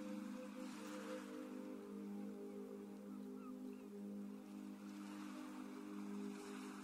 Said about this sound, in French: Le bruit des vagues vous parvient et accompagne toujours votre respiration avec cette même régularité.